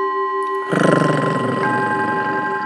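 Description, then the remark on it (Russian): A voice lets out an angry, low, rough, rumbling growl like a dog, sustained for about two seconds over a steady background tone. “Ой, да ты рычишь, как собачка.”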